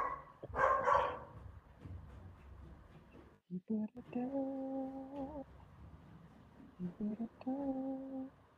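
animal, dog barking

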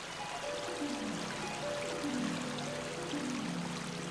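nature, distant waterfall

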